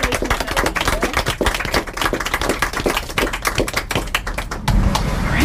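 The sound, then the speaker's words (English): A group claps in dense, steady applause for a writer and her story, many overlapping sharp hand claps forming a continuous patter, which gives way near the end to a broader, rumbling wash of noise. “So, in another round of applause.”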